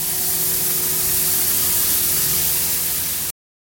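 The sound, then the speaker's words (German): A leaf blower roars steadily and loudly as it blows fallen leaves together, a harsh rush of air over a low engine drone, holding constant for a few seconds before cutting off abruptly. “sogar das Laub wird nicht mehr geharkt, sondern lautstark zusammengeblasen.”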